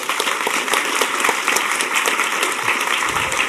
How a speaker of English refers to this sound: He's right over here. So a round of applause for that guy, please.